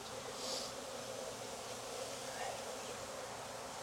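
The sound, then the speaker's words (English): A dense, steady drone of many agitated honeybees buzzing around an open hive, continuous and busy with an edgy, agitated intensity, no voices present. “The pissy bees is a little too early to mean anything.”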